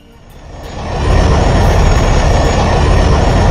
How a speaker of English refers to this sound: Oh, he came. Carla, where is that plane from? Chris, my kindest helper, Bitto from Electron.